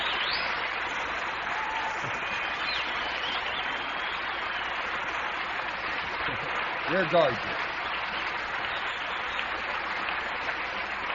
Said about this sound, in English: Well, if you're going to applaud all night, we'll never get the word.